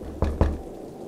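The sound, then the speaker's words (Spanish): Two quick, heavy, desperate knocks on a door, booming, struck in rapid succession before the sound falls away into quiet. “«Apaguen la televisión y hagan silencio», murmuró con voz temblorosa, mientras el sonido de golpes desesperados resonaron en la puerta.”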